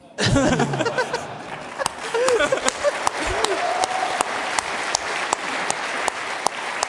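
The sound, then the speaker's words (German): A crowd breaks into steady, dense applause, many hands clapping at once for several seconds, with a few voices whooping and laughing over the opening moments. “Also ich habe den Applaus schon gehört, wir fragen mal den Balkencounter.”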